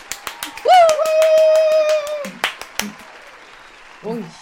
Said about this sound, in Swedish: Och en stor applåd för gästerna,